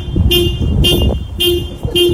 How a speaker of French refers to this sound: Enfin, écoutez ce klaxon.